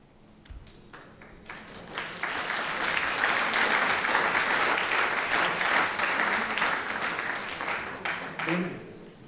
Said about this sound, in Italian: Era un applauso di congedo, insomma.